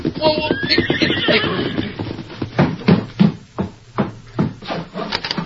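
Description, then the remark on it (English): A horse ridden up a broad wagon trail to a ranch house on the Arrowhead Range, facing open prairie, whinnies loudly at the start, then hoofbeats clop in an uneven rhythm as it slows to a halt, with faint voices in the background. “It echoed now at the hoofbeats of a horse ridden by the widow's youngest son”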